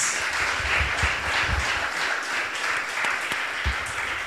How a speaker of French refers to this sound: On peut l'applaudir. Yes.